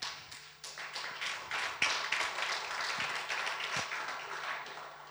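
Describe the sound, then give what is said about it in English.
Steady applause from an audience, a dense patter of many hands clapping at once, holding fairly even in loudness throughout with no voices over it. “thank you for clapping.”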